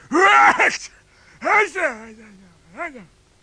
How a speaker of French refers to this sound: Lorsqu'il apprit que Geppetto n'était qu'un pauvre menuisier, il se remit à éternuer.